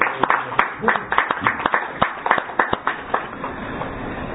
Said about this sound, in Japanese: 三世代の拍手でお願いします。